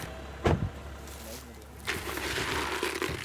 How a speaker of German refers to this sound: Aus dem zweiten Auto steigt Jagdfreund Moritz Nickel aus